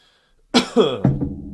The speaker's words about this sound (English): We'll do a normal coughing fit because apparently I can't stop coughing. Oh my god, my allergies.